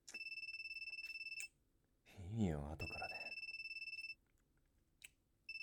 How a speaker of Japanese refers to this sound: 電話。